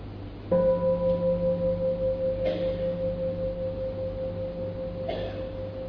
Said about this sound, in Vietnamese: Bây giờ mà quý vị nghe một tiếng chuông, và chúng ta mở giác quan tai ra để nghe, ngoài tiếng chuông ra thì còn có tiếng gì khác nữa không?